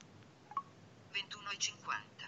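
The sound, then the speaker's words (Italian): A smartwatch wakes at the press of its crown, giving a faint blip followed by a quick flurry of bright, high electronic chirps and beeps over a soft background hiss. “Come lo si sveglia? Premendo la corona, sentite.”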